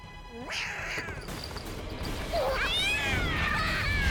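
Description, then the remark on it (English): A cartoon cat lets out a rising, yowling meow, then pounces with a quick thumping crash, followed by a string of high, squeaky chirps over a steady, busy background. “Cat pounces.”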